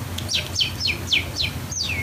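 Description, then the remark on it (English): A person whistles a bird imitation: six quick descending chirps in a steady rhythm, clear, over a low background hum. “I sound like a bird. I could do a bird.”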